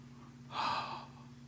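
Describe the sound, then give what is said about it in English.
A voice imitates a single sharp, breathy gasp of a man lying on a highway: one loud intake of air lasting about half a second, over a faint low hum with no talking. “Okay. Breathing. Breathing's good.”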